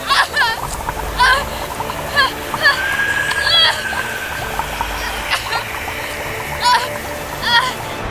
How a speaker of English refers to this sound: The water returned in a fury, but something was different. The water was black as the waters at the bottom of the quarry. The bathtub quickly filled to the brim, and the black water oozed onto the tiled floor. It boiled violently.